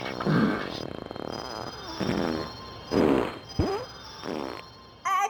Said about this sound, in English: Was so appropriate since you had the farting Santa on earlier. Oh, thank you so much for playing that.